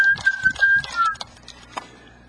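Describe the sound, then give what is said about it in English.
A person whistles one steady, clear note that dips slightly in pitch and lasts about a second, over soft low thumps and rustling. Only faint background noise follows. “Whistle, whistle, whistle.”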